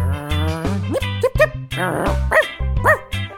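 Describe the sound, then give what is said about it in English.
A dog barks and yelps several times in quick, uneven bursts, close and loud, over a steady low droning tone underneath. “Take Salsa here.”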